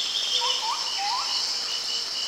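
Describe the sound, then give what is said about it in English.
In a rainforest in Puerto Rico, a steady high insect drone fills the background while several short rising whistles from birds high up in the trees call out, in a dense, humid-sounding chorus with no talking. “I can hear insects, mammals, and a lot of birds way up in the trees.”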